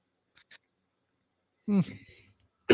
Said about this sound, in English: Yeah, you're coughing a lot. Yeah, we probably should end it after this segment. I got a dry throat right now